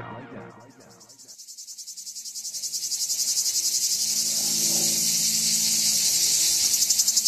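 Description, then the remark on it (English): A loud, dense buzzing drone of cicadas swells and pulses steadily, filling the air with a rhythmic, shimmering whir that grows stronger after a brief muffled start. “That's the sound. You recognize it? We're talking about the cicada.”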